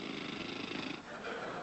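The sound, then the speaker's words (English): A voice imitates a dentist's drill with a steady, gritty buzzing whirr that holds for under two seconds, dipping briefly midway before resuming at a slightly higher pitch. “And now, drill, please.”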